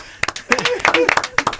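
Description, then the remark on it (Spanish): Scattered, uneven claps ring out over about two seconds while voices talk and call out beneath them. The clapping is sparse rather than a full, steady round of applause. “Aplaudidme, por favor.”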